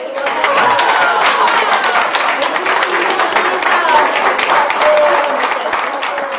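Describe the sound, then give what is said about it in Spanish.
An audience bursts into steady, sustained applause, a dense wash of many hands clapping at an even loudness throughout, with faint crowd chatter mixed underneath. “debemos de darle otro aplauso porque está con fiebre.”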